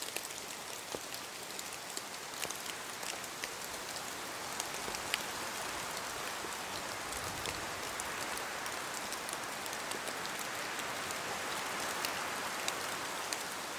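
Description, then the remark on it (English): Steady rain pattering on a hard surface, a dense even wash of droplets with occasional sharper taps standing out, continuous and moderately loud throughout with no voices. “As the rain slows, you glance over at the smoldering fire.”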